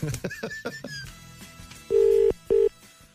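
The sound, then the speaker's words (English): Brief talking at the start, then the ringback tone of an outgoing phone call from a Today FM radio show to the owner of an Italian Piaggio Ape truck converted into a mobile Prosecco bar: a steady, fairly loud electronic purr in a quick double-ring pattern, one longer pulse and then a shorter one. “Oh. It's ringing.”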